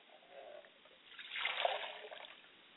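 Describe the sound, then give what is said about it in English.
Water is poured onto the ground as a libation in a soft, continuous splashing stream that builds to a fuller gush midway, then tapers off. It is fairly faint, with no one talking. “As I pour libations to the south, I say, Ashe.”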